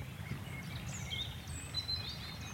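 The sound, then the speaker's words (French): Water of the Dour river, slightly in flood and eroding its bank, laps and burbles in a steady, low, continuous wash, while a few faint, high bird chirps flicker above it; no one speaks. “Et le clapotis qu'on peut entendre au micro, c'est la Dour là, qui érode tranquillement, elle est légèrement en crue, donc là elle fait son boulot d'érosion.”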